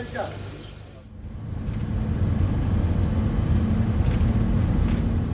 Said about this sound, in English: As we leave the Rafah border crossing, we pass dozens upon dozens of aid trucks. They're queued along the border for kilometres on end.